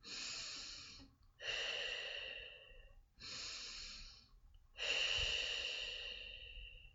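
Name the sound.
forceful exhale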